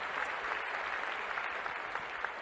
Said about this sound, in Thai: เสียงปรบมือเนี่ยผมก็ดังไปหน่อยนะ